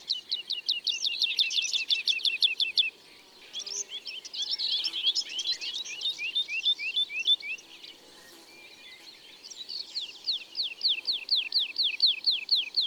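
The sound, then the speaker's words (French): A bird sings while flying in curves in the sky, with rapid, liquid trilled phrases of repeated notes that slide downward in pitch. It is a soft, melodious lu-lu-lu song in several bursts with brief pauses between, loud and clear with no voices. “Elle fait des courbes dans le ciel tout en chantant ses lulululululu.”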